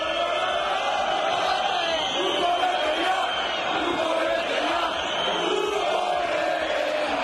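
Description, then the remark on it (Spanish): A huge stadium crowd at San Mamés chants in unison about coach Ziganda, a dense roar of thousands of voices rising and falling in a steady rhythm, loud and unbroken for several seconds. “En cambio de Ziganda, mire lo que grita San Mamés.”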